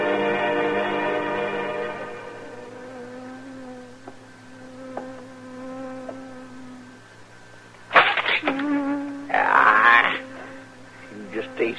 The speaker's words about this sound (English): Doggone bee buzzing around his head all day, get out of the body's brain.